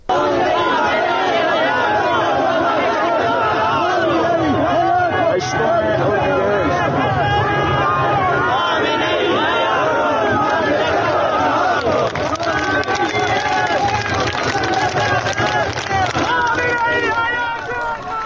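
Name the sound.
protest crowd chanting slogans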